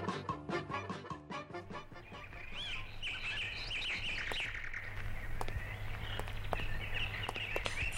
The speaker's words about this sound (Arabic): هذه الطيور تسمى طيور الزينة يا أبي. وكيف عرفت أنها من طيور الزينة يا أبي؟